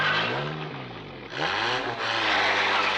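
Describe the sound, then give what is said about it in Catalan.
A car engine revs up loudly, its pitch rising and falling through a couple of throttle bursts before it roars off, prominent with no voices. “Li agafo el cotxe, d'acord?”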